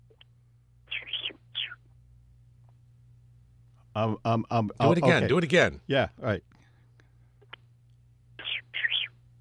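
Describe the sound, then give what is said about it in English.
A voice imitates the call of an unidentified bird: a quick drop-like note followed by a loud warble of rapid rising and falling whistled tones, with short whispered remarks before and after. “It sounds like a water drop and then a warble.”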